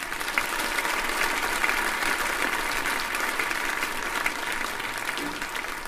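An audience at a concert claps steadily for six seconds, a dense, even wash of many hands with no pauses, holding at a moderate level throughout.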